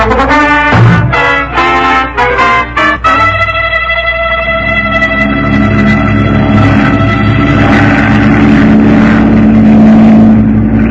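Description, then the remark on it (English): A loud, steady engine drone from a flying boat in flight at 5 a.m. while looking for a fishing boat, with a few choppy surges in the first seconds before settling into a continuous, even roar with no voices. “How does anybody fish from a flying boat?”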